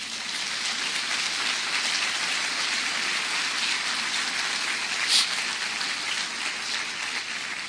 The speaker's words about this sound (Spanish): Denle un aplauso a Él.